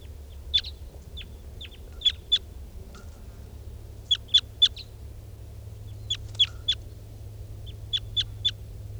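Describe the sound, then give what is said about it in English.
Wild crossbills flying over give sharp, high chirping calls in quick clusters of three or four, repeating every couple of seconds over a steady low rumble. No one speaks. “.475 and the wild birds in back, and 387 on the side.”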